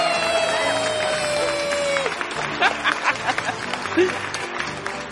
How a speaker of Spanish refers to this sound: ¡Un aplauso! ¡Bravo! ¡Un aplauso!